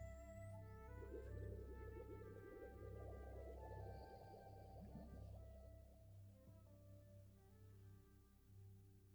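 animal, dolphin vocalizations

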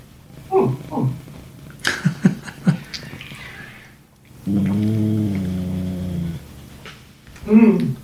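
animal, dog growling

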